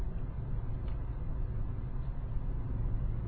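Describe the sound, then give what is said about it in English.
A steady, low rumbling roar of heavy, fast-moving traffic on the Autobahn, cars and lorries all doing at least 100 kilometres an hour, fills the whole recording at an even loudness, with no individual vehicles standing out and no voices. “So, yeah, we have some heavy traffic here, but we're all doing at least 100 kilometers an hour, including the lorries.”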